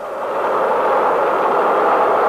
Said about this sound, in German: Der Lärm ist ohrenbetäubend, als sich 8600 Kilo Alkohol und flüssiger Sauerstoff entzünden. Mit 650.000 PS schießt die Rakete schließlich in den Himmel.